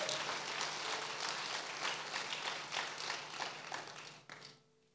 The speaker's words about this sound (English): Can you appreciate God for him making you to church this morning? I don't like the way you're clapping, Bwana. Can you improve your clap, Bwana?